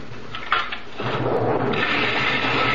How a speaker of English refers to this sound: I take the granite sand, I mix in very thin lacquer, like this, in a blender.